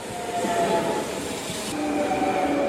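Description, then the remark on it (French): An RER commuter train runs steadily with a broad, continuous rumble and hiss, faint tonal whines from the motors drifting in and out, heard from inside the carriage with no voices. “Et après, nous avons pris le RER.”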